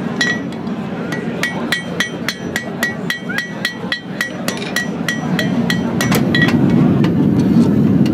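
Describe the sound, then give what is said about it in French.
An itinerant farrier hammers cherry-red hot iron on an anvil at a mobile forge installed in a truck, in a steady, rapid series of loud ringing metallic strikes over a low rumbling background hum. “Du coup, il faut se dépêcher de le travailler. Oui, absolument. C'est le dicton, faut battre le fer tant qu'il est chaud.”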